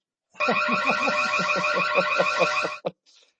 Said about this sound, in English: But maybe that alarm went off